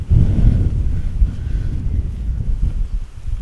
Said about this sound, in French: Il pleut, c'est la tempête.